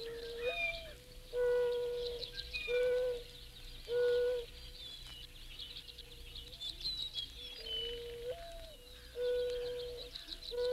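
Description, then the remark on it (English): A mourning dove in Florida coos in a series of soft, low, hollow calls repeating every couple of seconds, clear, while fainter songbirds chirp and twitter in the background. “That was the cooing voice of a mourning dove in Florida.”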